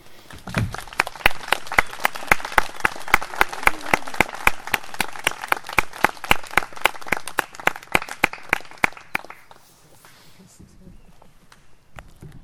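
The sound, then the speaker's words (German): A church audience claps for the musicians of the service for about ten seconds, a dense patter of many hands with sharp individual claps standing out, then it fades quickly and one last clap sounds near the end. “Ihr kriegt jetzt mal einen Applaus.”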